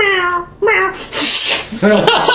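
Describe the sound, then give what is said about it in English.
A person imitates the Bloodlotus kitten in a tabletop game with a few drawn-out, whiny meows close to the microphone, broken up by breathy, hissy bursts between the calls. “Meow, meow. It wastes every 3 rounds.”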